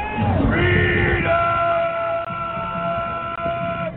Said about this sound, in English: They made their presence known in the crowd of Trump supporters in Washington that day. When a mob stormed the Capitol, many QAnon supporters were on the front lines.